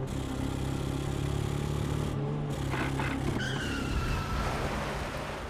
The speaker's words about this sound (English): Routing him from his hideout, the Northsiders pursued him relentlessly in a high-speed car chase, where Weiss hung out of his car window, emptying his guns into Jenna's car as Bugs Moran reloaded for him, until finally, the bullet found its mark.